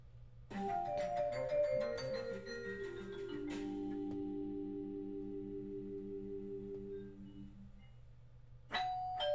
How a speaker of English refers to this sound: There it is again. The irritating, sleep-rending noise known as a doorbell did not stop like I had hoped.